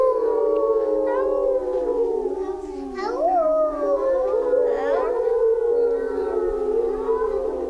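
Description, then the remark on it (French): A chorus of wolf howls, several overlapping wavering voices rising and falling together, loud, sustained for the whole stretch, sounding like a group of people imitating wolves. “Alors le loup prenait une grande inspiration, faisait rouler ses yeux, hérissait ses poils et criait « Aouh !”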